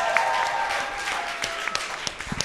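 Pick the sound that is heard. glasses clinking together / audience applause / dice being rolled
audience applause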